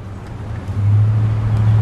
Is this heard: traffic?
yes